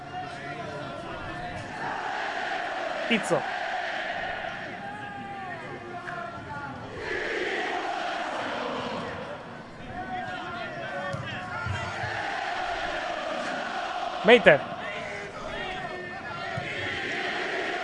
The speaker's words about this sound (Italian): Sentite in sottofondo i tifosi del Torino.